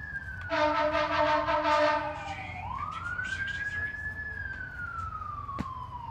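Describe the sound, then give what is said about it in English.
Emergency vehicle sirens wail continuously, one loud harmonic tone sweeping down then rising and slowly falling again as it passes, with a steady low rumble of traffic underneath and no clear talking. “Sirens.”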